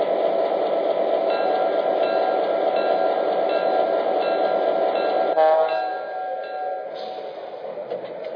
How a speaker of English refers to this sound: arriving from Chicago on track 1, train number 53, the city of Miami.